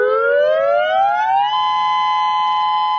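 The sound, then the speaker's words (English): A tsunami warning civil defense siren, sounded in a test of the tsunami warning system, winds up, its loud, harmonic-rich tone climbing in pitch for about a second and a half before holding a steady, sustained wail. No voices. “Civil defense agencies keep people prepared by testing their tsunami warning system.”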